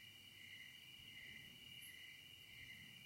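Crickets chirp in a steady, unbroken high-pitched trill, fairly soft and even throughout, over a faint low background rumble with no voices.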